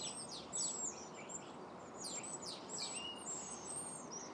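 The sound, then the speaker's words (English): A flock of starlings chatters continuously, with overlapping high whistles, squeaks and rapid descending calls over a dense, noisy background, with no talking. “Most of the sounds, in fact, virtually all the sounds you're hearing now, are coming from these starlings.”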